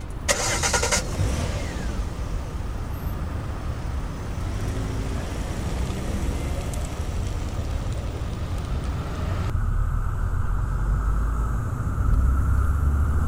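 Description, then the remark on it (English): A car drives steadily, following a van that is pulling out, with a low engine rumble and constant road noise, opening with a brief bright clatter, and the sound grows slightly deeper and louder toward the end. “Okay, the van is pulling out. All right, we'll follow the van.”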